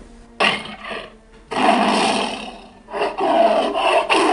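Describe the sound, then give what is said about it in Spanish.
An angry tiger, not yet fed, growls in several rough, rasping bursts separated by brief pauses, loud with no talking over it. “Ese era mi tigre, que está un poquito enojado porque todavía no le doy de comer, pero más ratito voy a ir a darles de comer, apenas termine el programa.”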